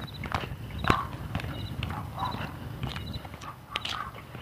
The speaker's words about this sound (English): Roofers are out banging this morning.